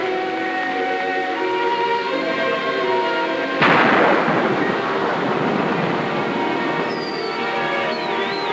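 Heavy rain pelts down in a forest in a dense, steady roar, swelling abruptly into a louder, harsher downpour partway through. No one speaks.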